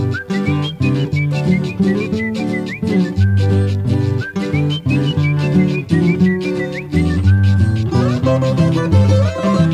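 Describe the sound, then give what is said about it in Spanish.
A person whistles a short signal tune that rises over a loud, full band, its thin bright notes bending and repeating in brief phrases above steady drums and bass, with no talking. “Y si acaso me toca pasar de largo y disimular, te dejo este silbito y de santo y seña para aceptar.”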